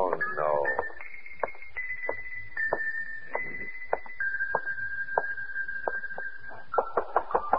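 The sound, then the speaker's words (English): Sharp knocks on a door by someone bringing a message come in irregular bursts, ending in a quick flurry of raps, while a steady high-pitched tone hums underneath throughout. “Come on, answer the door. Anybody home? My, we're being rather boisterous out here, aren't we?”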